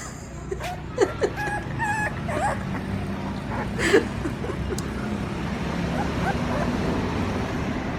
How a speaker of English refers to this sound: A shaggy black and white one jumped, grabbed his left shoe, and refused to let go. The dog hung by its teeth, growling, trying to pull Frank off the gate. This puppy was strong.